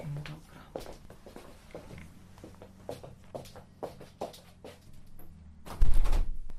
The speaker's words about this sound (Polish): Zamknę drzwi, bo to